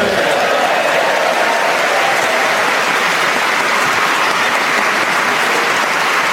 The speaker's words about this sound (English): Please don't clap too long. We don't want to push our luck.